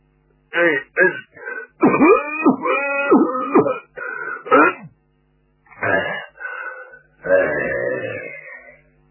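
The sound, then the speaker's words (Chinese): A voice imitates the elderly Zhao Erxun's fits of coughing and throat clearing as a meeting begins, in loud bursts, ending with a long, noisy nose blow. “会议开始之时，赵尔巽首先得讲套话了，老头太老了，动不动了上气不接下气，先咳嗽一顿，又擤鼻涕又擦眼泪，你说这个麻烦劲儿，足有5分钟才被收拾完。”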